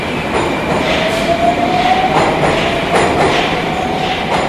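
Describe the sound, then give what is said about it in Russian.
Metro trains of the Tagansko-Krasnopresnenskaya line rumble steadily and loudly overhead, heard from inside an underground bunker, with wheels clacking at uneven intervals and a thin squealing tone rising faintly through the din. No one speaks. “Над нами здесь поезда Таганской Краснопресненской ветки.”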